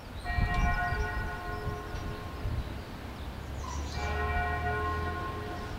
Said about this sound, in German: Die Glocke der Church of Our Old Lady of the Wyeside, die sich auf dem Gelände der Abtei befindet, ruft zur Messe.